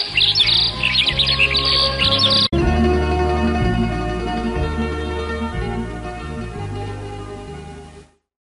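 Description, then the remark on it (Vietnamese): Before sunrise, a dense flurry of bird chirps and trills rings out loud around a house at the edge of a forest, over a steady musical backdrop for a couple of seconds, then the birdsong drops away while the music carries on. “Sáng sáng mà trời chưa kịp mọc, Bê Vàng đã nghe rộn rã tiếng hót ở quanh nhà ở ven rừng”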